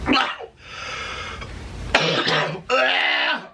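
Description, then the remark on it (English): A CPAP machine worn over a man's nose hisses with a steady, breathy airflow, broken up by his raspy, gurgling coughs and throaty strained sounds in short bursts; he has cracked ribs from excessive coughing. “And you can hear the CPAP machine he is wearing over his nose in this video.”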